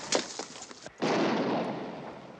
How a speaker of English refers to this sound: Nearby, Dylan hears the shots.